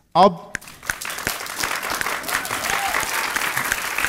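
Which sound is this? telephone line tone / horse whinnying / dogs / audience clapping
audience clapping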